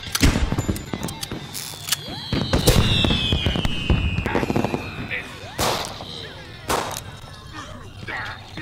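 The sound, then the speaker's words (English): Video game fireworks go off in a rapid, irregular volley: loud bangs and crackles mixed with high whistling streaks that sweep downward, continuing for several seconds. “Oh, fireworks!”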